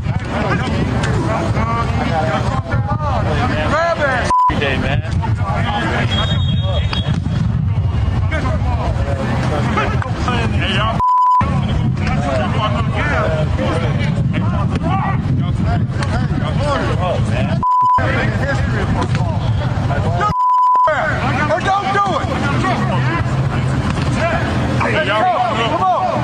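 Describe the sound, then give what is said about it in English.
Four short, loud, steady censor beeps bleep out words at irregular moments over busy outdoor college football practice audio, with people shouting and talking amid constant background noise. “Yes, there are some words that have been beeped out because it's a college football practice.”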